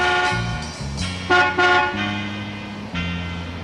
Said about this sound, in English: A large black Cadillac car arrives at the gates, which slowly begin to open after hearing the car's horn.